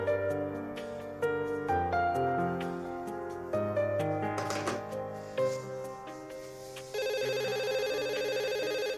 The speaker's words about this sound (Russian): Ты подожди, не бери. Это мне с работы звонят. Наверное, Николай Петрович не может дозвониться.